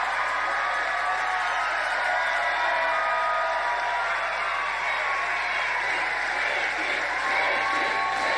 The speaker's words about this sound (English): No, the crowd simply cheers.